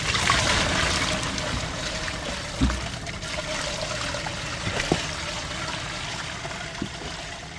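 Water pours and splashes steadily in a broad, hissing wash, with a few soft thumps and knocks breaking through as the contents tumble out. No one speaks.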